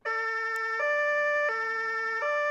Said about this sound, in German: Ja, genau. Polizei, Notarzt, Feuerwehr, die haben alle ein Martinshorn. Und darum geht's heute bei uns, um das Tatütata.